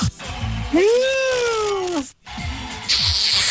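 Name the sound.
kitten meowing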